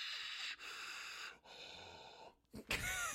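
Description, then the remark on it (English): Loud, close heavy breathing straight into a microphone: long raspy breaths with short pauses between them, ending in a few sharp, snorting exhales before the sound cuts off. “Heavy breathing into microphone, recording cuts.”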